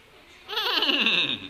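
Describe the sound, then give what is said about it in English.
A person imitates a horse's whinny: one wavering, quavering neigh lasting about a second, fairly loud and alone, with no talking. “Horse noises. Can anybody make horse noises for me?”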